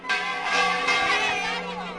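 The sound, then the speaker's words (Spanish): Church bells ring a festive repique during a septenario, as the procession of the Virgin of Tejera nears its end at the ruins of Moya at dusk, with bright overlapping metallic tones clanging continuously and blending into a dense, steady wash of sound throughout. “Así es como suena a repique en un septenario.”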